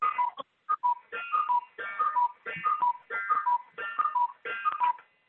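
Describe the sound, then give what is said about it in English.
A cuckoo clock sounds its call, a repeated falling two-note tone sounding several times in a steady rhythm over about five seconds. The notes are clear and fairly loud, with no voices. “Excuse the cuckoo.”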